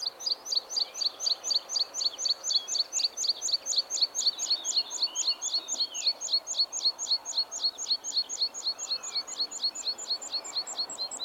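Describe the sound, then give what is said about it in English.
A small bird sings a long, steady series of thin, high pips during a parachuting song flight, repeated rapidly and evenly for several seconds, clear with no talking. “They do this lovely sort of parachuting song flights as well, particularly in the spring and the summer, where they sort of go pip, pip, pip, pip”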